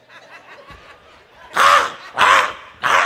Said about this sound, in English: See, crows.